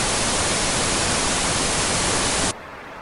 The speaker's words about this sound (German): Wow, die Winde von Kansas sind wirklich stark. Findest du nicht auch, Toto?